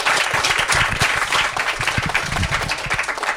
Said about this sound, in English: Would you please give a warm round of applause, please, to David Lebovich.